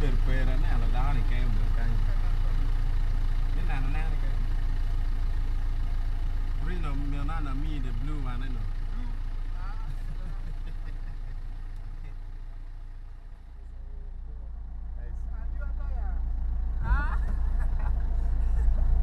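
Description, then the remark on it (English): A car engine idles with a steady low rumble throughout while people talk over it for much of the time, as the vehicle is stopped by traffic police checking whether it is in good working condition. “Wants to know if our vehicle is in good working condition.”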